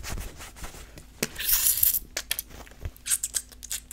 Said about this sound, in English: I love this crinkly, wrinkly little packaging. I got this, I think it was like some earrings I ordered. I think the brand is Studio Cult, and I loved this packaging, so I kept it forever.